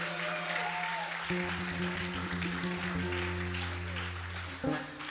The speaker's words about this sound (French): un petit peu d'applaudissements s'il vous plaît